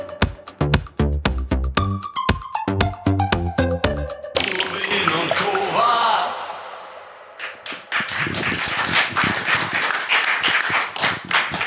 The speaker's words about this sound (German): Das ist schön, dass man den ersten Applaus schon dafür bekommt, dass ein Video läuft.